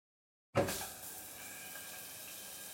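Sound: running water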